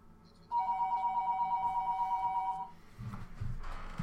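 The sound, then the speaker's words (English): A mobile phone rings with a loud, steady electronic trill for about two seconds, then cuts off, leaving muffled low rumbling and shuffling noise. “I always get busted for my phone ringing.”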